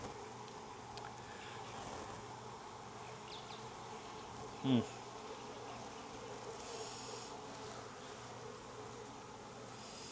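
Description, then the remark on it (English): A dense, steady drone of many honeybees buzzing around an open hive whose colony is not queenless, with one brief louder burst as a bee passes midway through. “Plenty of bees, but these bees are not queenless.”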